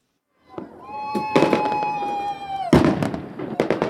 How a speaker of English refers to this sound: Unofficial fireworks filled the air over Inglewood and the newly minted SoFi Stadium after the Rams come from behind win.